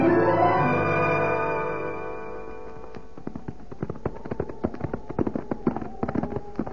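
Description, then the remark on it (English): A lingering musical tone fades out, then a quick, uneven run of sharp hoof clip-clops takes over, growing busier, like horses setting off at a brisk pace. “I'll get the horses right now, Hoppy.”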